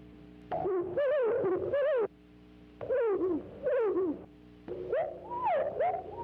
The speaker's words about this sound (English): "Shut the Door" is such a motif. Similar phrases appear as the main theme in the songs of three other house wrens thus.